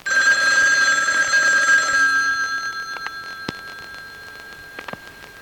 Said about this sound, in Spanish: seguro que te está llamando al aparato. Anda, coge el teléfono, despierta, cretino, es para ti.